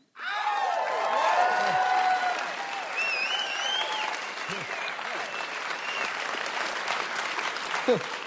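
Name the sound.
audience clapping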